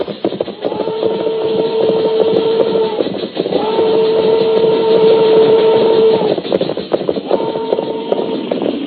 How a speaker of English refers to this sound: Train go plenty slow now. Maybe we get on board.